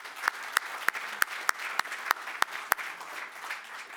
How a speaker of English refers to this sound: So all the speakers, let's just give them another applause today.